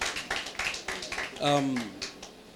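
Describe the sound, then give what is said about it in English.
Steady applause from a church audience for the choir and instrumentalists, a dense rattle of many hands clapping throughout, with a voice rising in a brief drawn-out call or cheer over it midway. “Can you give the choir a round of applause, the instrumentalists?”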